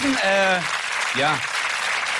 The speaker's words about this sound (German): Nein, das ist wirklich, der Applaus ist berechtigt, das ist alles.